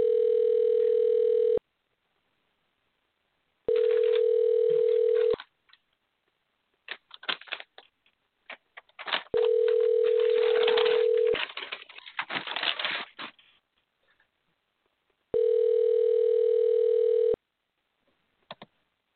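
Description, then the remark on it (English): An outgoing call to a show guest goes unanswered: its ringback tone purrs four times, each steady, mid-pitched burst lasting about two seconds with pauses between, while faint chirping and rustling fill the gaps. “All right, doesn't look like he's at the phone.”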